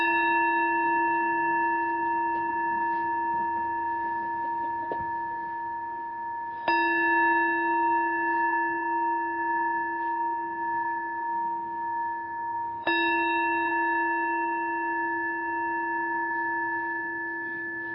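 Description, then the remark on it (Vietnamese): A temple bell is struck three times to begin a morning Buddhist gathering in El Monte, California, USA, on 4 June 2014, about six seconds apart, each strike a rich resonant tone whose long humming ring carries on until the next. No one speaks. “A Di Đà Phật, đại chúng ngồi lắng lòng và chúng ta nghe ba tiếng chuông để bắt đầu buổi sinh hoạt sáng nay.”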